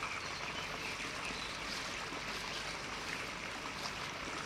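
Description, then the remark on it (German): A babbling stream flows steadily through a deep, gorge-like valley with high rock walls on both sides, on the Höhlen- und Schluchtensteig trail at Kell. Its broad, continuous rush of water bubbles and trickles without pause. No voices are heard. “Langsam laufen wir den Bach entlang.”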